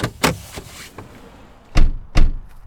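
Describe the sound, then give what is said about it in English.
The door of a house opens with a series of dull thunks and clunks, two heavier knocks near the end, with no voices present. “They don't even make it all the way to the door when it opens, and Mrs.”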